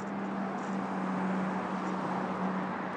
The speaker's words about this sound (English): Lost in my own thoughts and lost on this rather busy road in Worcestershire.